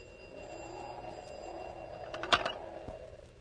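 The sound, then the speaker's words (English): An old party-line telephone bell, cranked one long and three short, rings faintly and steadily, with a short, louder metallic rattle of the bell near the end. No one speaks. “Bells ring out in every lookout and guard station, in every nearby farm home.”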